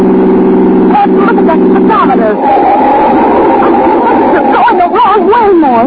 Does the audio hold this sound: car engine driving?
yes